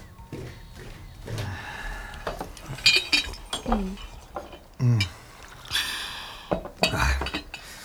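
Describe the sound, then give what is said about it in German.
Teacups and saucers clink lightly several times in a kitchen, with a brief splashy pour of hot tea, while soft voices murmur in the background. “Gemeinsam genossen sie einen heißen Tee,”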